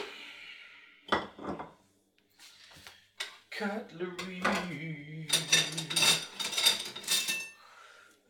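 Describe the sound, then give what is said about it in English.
Metal cutlery clinks and rattles in several bursts, with sharp scraping clatters standing out, while a voice talks intermittently over the handling noise. “Cutlery.”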